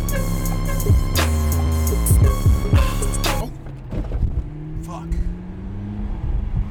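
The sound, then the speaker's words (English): A McLaren sports car engine revs hard in loud bursts, then speeds away with a steadily rising whine that grows quieter. “Tyler ignores this advice, instead speeding away in his McLaren sports car.”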